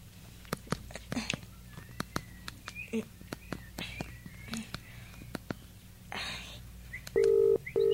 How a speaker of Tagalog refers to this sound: Ay, ayan. Naririnig ko nang nagre-ring yung cellphone.